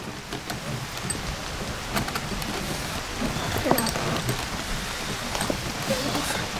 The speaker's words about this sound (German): Regen. Eine elende Flussfahrt ist das doch. Nirgendwo sieht man ein helles Fleckchen am Himmel.